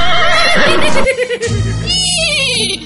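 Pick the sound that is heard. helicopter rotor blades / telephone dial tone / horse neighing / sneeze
horse neighing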